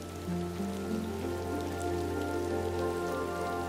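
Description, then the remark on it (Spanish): Steady rain patters continuously on a hard surface, a dense even hiss of drops throughout, with a soft sustained low musical drone underneath and no voices. “La lluvia representa todas las emociones que a veces hemos de transitar.”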